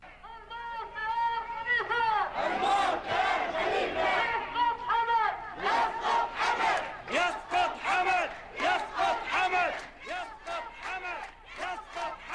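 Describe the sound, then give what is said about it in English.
A large crowd of protesters in the eastern Saudi Arabian city of Qatif chants loudly in unison against the crackdown on anti-government protesters in Bahrain, voices rising and falling in a steady rhythmic cadence, with overlapping shouts keeping the mass of sound dense throughout. “Well, people in Saudi Arabia have held a new protest against the brutal ongoing crackdown against anti-government protesters in Bahrain.”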